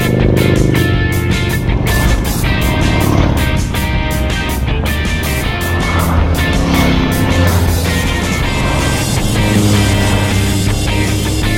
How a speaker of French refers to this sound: Et les camions dans les cols